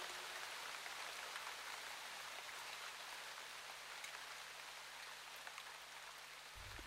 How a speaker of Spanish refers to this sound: acompanyada solo de la lluvia